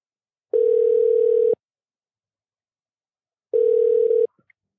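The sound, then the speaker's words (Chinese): A telephone dial tone as a call-in to a guest is placed: two long, steady, mid-pitched buzzing tones, each about a second, separated by a two-second silence, followed by a couple of faint clicks. No one speaks. “好，那我们现在就准备 call in。”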